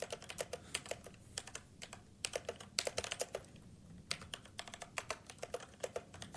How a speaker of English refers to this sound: So, what does this sound like? This is the brown version of mechanical switches. If I'm just going to do a little test.